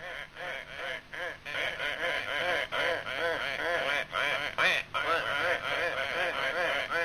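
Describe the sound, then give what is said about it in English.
A dense, steady chorus of many migrating ducks quacking at once, calls overlapping nonstop, with no pauses throughout. “the sound of migrating ducks reminded Master Jackson that it was duck hunting season again”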